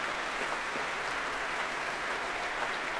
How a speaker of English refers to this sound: And that great cheer is for all those chorus members.